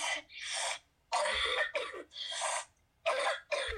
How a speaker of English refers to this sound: I still have that cough, guys.